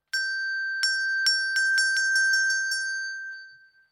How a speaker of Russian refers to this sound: Подошел волк к дереву, позвонил в колокольчик. Колокольчик и зазвенел.